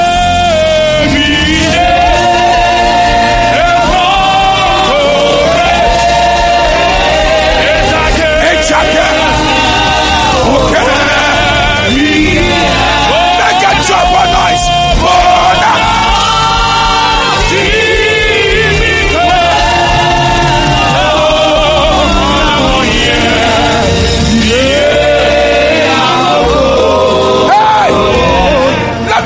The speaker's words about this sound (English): Let the devil hear you now. There is a mighty power in this place. There is a miracle in this place. Clap your hands and scream, I receive it.